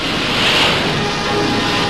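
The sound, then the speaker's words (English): A loud, steady roar of mountainous ocean waves surging against warships' hulls off the east coast of Korea, a dense wash of spray and water noise that swells slightly midway with no voices present. “The warships poured through mountainous waves to accomplish their mission, part of a land, sea, and air campaign called Operation Strangle.”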